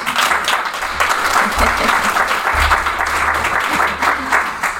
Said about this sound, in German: Wenn die Muscheln das auch so finden, dann dürfen die jetzt einmal klatschen.